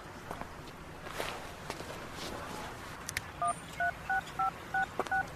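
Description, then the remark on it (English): A phone number being dialed to cancel an appointment: seven quick touch-tone beeps in a rapid, slightly uneven sequence, each a short two-pitch electronic tone, over faint rustling and a few soft footsteps. “Are you calling an ambulance?”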